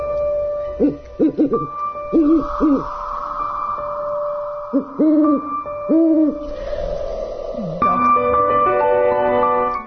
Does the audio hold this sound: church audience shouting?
no